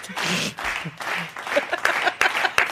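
crowd applause sound effect

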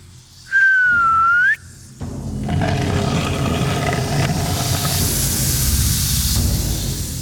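soft human whistling

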